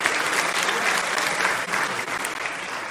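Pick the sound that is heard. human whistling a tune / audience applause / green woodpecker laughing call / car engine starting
audience applause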